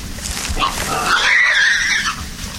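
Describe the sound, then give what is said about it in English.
A big male wild boar of about 320 to 330 pounds, challenging another boar, lets out a shrill, drawn-out squeal that rises and wavers for about a second, over rough outdoor noise, with grunting snorts before and after. “See, he's challenging that other boar right there.”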